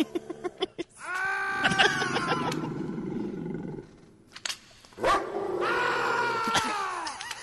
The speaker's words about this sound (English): That one really hurt. So they just took the bad screaming sound effect and layered it over some dog sound effects. Just some dogs barking and then squishy noises. Exactly. Like a guy squeezing an orange.